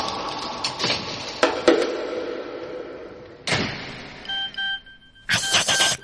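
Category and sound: household object, mobile phone ringing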